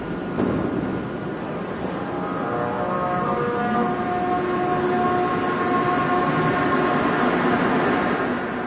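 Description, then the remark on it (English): A Montreal Metro MR63 train accelerates at a station with a steady rumble while clear, sustained musical tones rise and shift in pitch over it, like bowed cello notes, loud throughout. “When this train leaves or arrives at different stations, the sound of a cello arises from the metro.”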